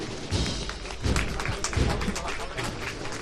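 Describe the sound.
A heavy procession float (paso) is lifted again by its bearers at the foreman's call, with a few deep, dull thuds, amid a steady wash of crowd noise, scattered clapping and indistinct voices.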